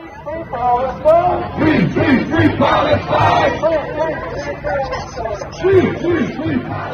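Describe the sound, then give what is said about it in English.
A crowd of hundreds of protesters outside the Israeli consulate in downtown Chicago, during the convention, chants loudly in unison, many voices rising and falling in a steady repeated rhythm, with a dense murmur of shouting filling the gaps between phrases. “On the second day of the convention, hundreds of protesters gathered outside the Israeli consulate in downtown Chicago, nearly 2 miles from the United Center where the convention was being held.”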